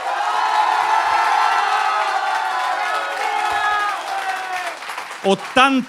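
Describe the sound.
A crowd bursts into loud, sustained applause mixed with cheering and shouting voices for about five seconds, then it fades as a single voice starts talking.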